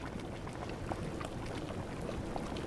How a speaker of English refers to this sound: And this sound isn't a jacuzzi, it's a natural mud pot. Stinky, sulfurous gases and bubbling mud emerge from underground all over Iceland's austere landscape.